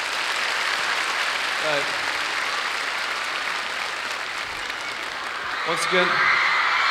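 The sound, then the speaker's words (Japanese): Steady audience applause at a concert in Japan for the rhythm section brought from England fills the whole stretch, a dense wash of clapping from a sizable crowd, with brief bursts of voices breaking through near the start and again toward the end. “そして、本国イギリスから連れてまいりましたリズムセクションの皆様にも拍手をどうぞという。”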